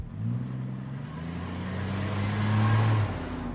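A manual stick-shift car's engine revs up with a steady, rising drone that swells louder before easing off as the vehicle pulls away along country lanes, with no voices present.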